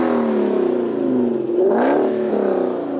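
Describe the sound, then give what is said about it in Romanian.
A car engine revs loudly, its droning pitch climbing sharply about halfway through before easing back into a steady growl, with no voices over it. “Băi, băiatule, cum se aude mașina.”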